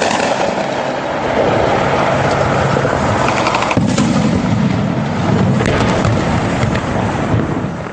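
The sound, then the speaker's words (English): Sustained bursts of gunfire crackle and pop through a dense, roaring background in the streets of Yemen outside the presidential palace, with sharp reports overlapping continuously and echoing as if between buildings, loud with no pauses. “Here's the sound last week of gunfire in the streets of Yemen outside the presidential palace.”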